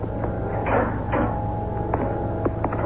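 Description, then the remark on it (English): A spaceship compartment door opens: two airy sliding whooshes followed by a few sharp clicks and clunks, all over a steady low mechanical hum, with no voices. “Before I open the compartment door, Happy, check your spacesuit air supply indicator again.”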